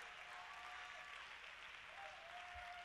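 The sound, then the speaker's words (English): A crowd claps their hands to praise God in a steady, dense wash of applause, with a faint sustained tone running underneath and no clear speech. “Let's clap our hands and give God praise.”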